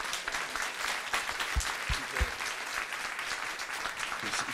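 Steady audience applause, a dense crackle of many hands clapping at an even level throughout, with a few low thumps scattered in and no voices standing out.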